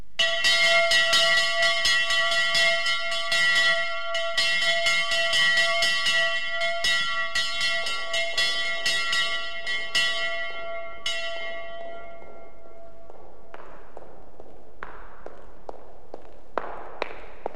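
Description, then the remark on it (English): A large bell at the great doors of a king's palace clangs repeatedly with rich, sustained harmonic ringing for about twelve seconds, then fades into a series of sharp, echoing knocks or footsteps. “He's reached the great doors, and he's going to ring the bell.”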